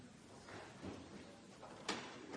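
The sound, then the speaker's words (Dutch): A door is pushed shut with one soft thud partway through, against quiet background noise and faint shuffling, with no talking. “Moet die deur misschien dicht gedaan of niet?”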